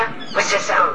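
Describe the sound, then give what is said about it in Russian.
A peacock call: two brief, loud, nasal wailing cries in quick succession, the second rising higher and sharper than the first. “Лала, это павлин. So what does peacock say?”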